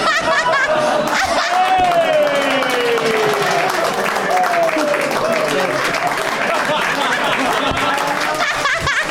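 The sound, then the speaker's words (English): A crowd applauding steadily, dense clapping that stays loud throughout, mixed with laughter and some voices calling out over it. “That's how the episode ends, was like 7 minutes of clapping.”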